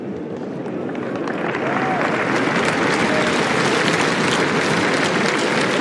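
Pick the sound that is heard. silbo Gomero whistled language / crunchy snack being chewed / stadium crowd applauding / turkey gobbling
stadium crowd applauding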